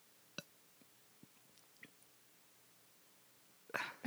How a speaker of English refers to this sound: There was a little burp.